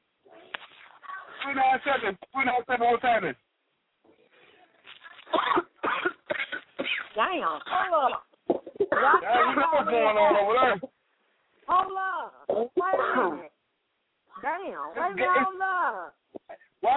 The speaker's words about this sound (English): Just cough on the phone and cough all over this motherfucker shit.